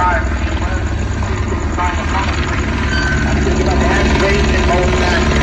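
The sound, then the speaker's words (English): Loud, steady police helicopter rotor noise drones overhead, a continuous throbbing rumble that nearly buries an indistinct amplified voice making an announcement underneath. “they should figure out a way to make those choppers not so loud, because they're making an announcement that I think is important and I can't hear any of it.”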